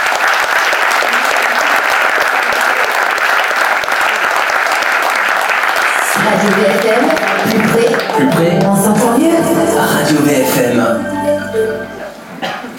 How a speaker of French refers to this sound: Alors, direction le canapé rouge, sous vos applaudissements.